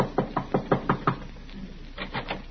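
A quick run of six evenly spaced knocks on a wooden door, then a short pause and a softer trio of knocks, close by with no voices.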